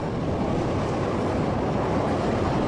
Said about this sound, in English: So I'm going to try now a CTA train. Let's try that and see how that goes.